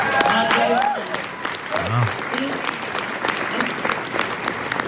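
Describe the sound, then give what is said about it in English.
A crowd breaks into steady, dense applause that fills the whole clip, with scattered cheers and voices rising above the clapping, after a presidential candidate answers that they would close immigration detention centers on day one. “Oh, yeah, clap for that.”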